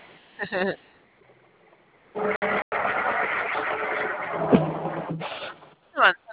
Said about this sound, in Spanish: Bueno. Veo que estamos avanzando muy lento. Sí, hay mucho, mucho tráfico aquí, luego están choque y choque.